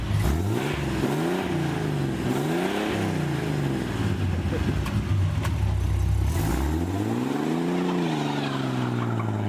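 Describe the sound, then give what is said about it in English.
A Hudson Hornet's straight-six car engine revs up and settles back several times in a row, its pitch climbing and falling in smooth swells, loud with a constant mechanical rumble underneath. “Instead, it was powered by a straight-six engine.”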